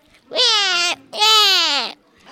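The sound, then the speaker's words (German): A baby at a zoo, frightened of the large trumpeting elephants, wails in two loud, drawn-out cries separated by a short breath, each bursting with strained, high-pitched intensity before trailing downward, with nothing else around it. “Auf einmal hörten wir ein Baby schreien.”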